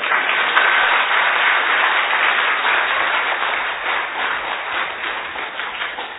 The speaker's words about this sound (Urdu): تالی بجا سکتے ہیں. یہ جو تالی ہے آپ نے اپنے لیے بجائی یا میرے لیے؟ تو اپنے لیے بھی بجاؤ.